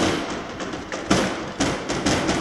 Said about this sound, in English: The Jerusalem courts were filled with new sounds. The sounds of clenched fists thumping upon the tables.